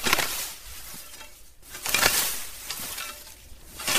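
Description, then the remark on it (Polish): A scythe swishes through a tall, strongly competing plant with white fluffy seed heads, mown so it does not shade globeflowers, in repeated broad, hissing strokes, each sweep rising and falling in loudness over a few seconds, with a soft crunch of cut stems and no voices. “i to pada pod kosą.”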